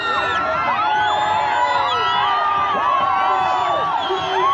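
A dense, frenzied crowd of people packed tightly together cheers and shouts continuously as Chavez waves his arms wildly from atop a pickup truck; many overlapping voices whoop and yell at high pitch, loud and sustained throughout with no pauses.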